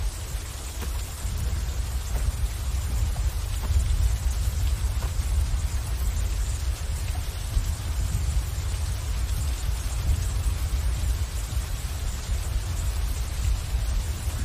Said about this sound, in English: while rain pours down and soaks the forest foliage.